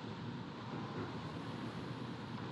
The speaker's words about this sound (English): As a mere conception, that sounds appallingly monotonous. Until you listen to the breaking and washing of waves.